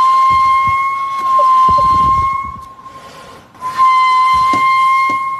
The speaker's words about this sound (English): What's great, it's two different walruses. I didn't even know that walruses knew how to whistle, and they're taking turns.